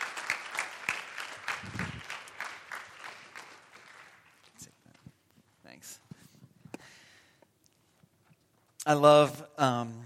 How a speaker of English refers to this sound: Congratulations, guys. Why don't we give them all just another round of applause?